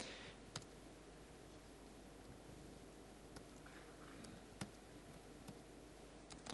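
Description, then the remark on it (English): Faint, sparse keyboard clicks, a handful of irregular keystrokes as someone types a password in front of 2,000 people, over a steady hiss of background noise with no talking. “And what's not easy is typing your password correctly in front of 2,000 people.”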